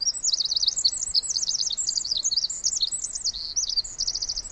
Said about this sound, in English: Just then, a tiny wren flies down and lands on a branch about 3 feet away from us and just lets it all out.